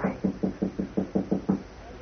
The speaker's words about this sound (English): I'll try the door. Okay. It's bolted. Oh? All right, try knocking, but softly.